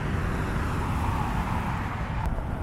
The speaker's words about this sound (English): There's cars, yes, you can hear them, but how can I be sure they're occupied?